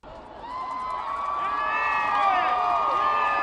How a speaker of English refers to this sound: That was the sound from the crowd on 125th Street when the Jumbotron showed President Obama emerging for the first time. And many of those cheers were coming from people who were playing hooky.